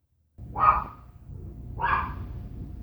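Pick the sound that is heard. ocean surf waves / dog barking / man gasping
dog barking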